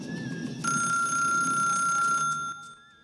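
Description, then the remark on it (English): A telephone rings with one sustained, bright electronic trill lasting about two seconds, loud, over a low background rumble, before it cuts off as the phone is picked up. “He turns off the TV with the remote and picks up the phone.”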